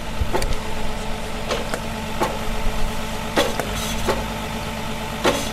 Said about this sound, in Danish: det er ved at bore et godt hul ned lige nu